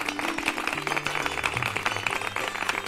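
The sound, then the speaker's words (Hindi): A group of children applauding, a dense, steady patter of many hands clapping for about three seconds, with faint low sustained tones underneath and no voices. “बच्चों, मीना के लिए जोरदार तालियां।”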